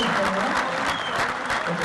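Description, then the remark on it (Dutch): In a hall, an audience claps along and sings along a little, a dense, steady wash of many hands at an even loudness, with faint voices mixed into the clapping. “In de zaal werd er een beetje meegeklapt en een beetje meegezongen.”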